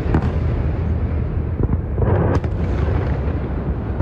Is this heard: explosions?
yes